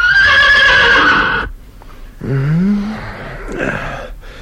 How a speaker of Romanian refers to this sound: Ei, și tocmai când era visul mai frumos, calul lui Țugulea necheză cu putere și îl trezi din somn.